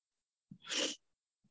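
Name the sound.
sneeze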